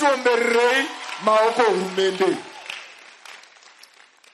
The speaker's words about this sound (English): How many know that if the government would not allow, we cannot come here? So clap for the government.